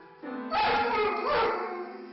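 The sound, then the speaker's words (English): A dog howls in long, wavering tones while pressing the keys of a white grand piano with its front paws. Two heavy clunks of the keys ring out underneath, one early and one midway, with no talking. “So dog is actually hitting the keys. Yeah, with his to front make paws. Him howl like this.”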